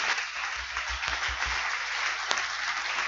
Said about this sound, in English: Oh, you are not clapping well.